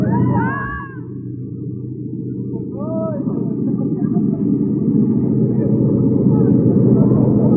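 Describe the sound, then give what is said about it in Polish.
A loud, steady roar of an airplane in flight fills the whole recording, with whining tones that briefly rise and fall in pitch as the engine note shifts, as the pilot deliberately rocks the plane. “Kołyszę bardzo tym samolotem, ale podejrzewam dlatego, że my po raz pierwszy lecimy.”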